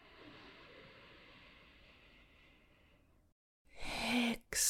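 A long, steady breath drawn in through the nose during a guided breathing exercise, soft and airy, then a brief silence before a louder rush of breath.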